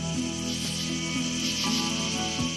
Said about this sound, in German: Welches Tier suchen wir? Ich sag es dir. Es ist die Heuschrecke.